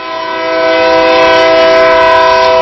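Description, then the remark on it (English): A train's horn blares in one long, steady, chord-like tone, loud, swelling slightly at the start and holding for the whole stretch with no one talking, as the train passes from right to left during a baseball game. “and there's that train I mentioned. It's coming from our right to our left.”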